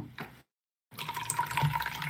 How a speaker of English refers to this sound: Gonna pour more of my drink.